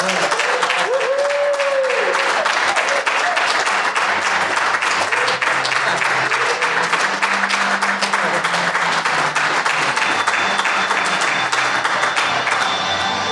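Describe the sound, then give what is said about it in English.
A crowd at the DIY Musician Conference in Valencia, Spain applauds steadily for over ten seconds, dense overlapping claps forming a loud, continuous wash, with a few faint whoops and voices underneath. “This is where we're going to make you clap.”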